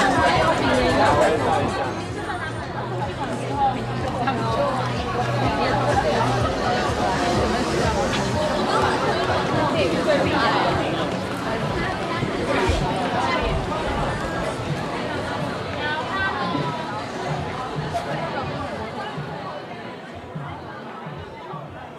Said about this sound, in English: Noisy, hot, or real now in Mandarin is an intersensorial metaphor for the affect that compels you to join the festive crowd that produces both noise and heat in their overjoyed celebration.